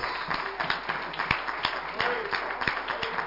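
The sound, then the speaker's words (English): An audience claps hands in praise, a dense, steady patter of many hands with sharper individual claps standing out, mixed with indistinct voices throughout. “Oh, will somebody give the Lord a hand clap of praise right now?”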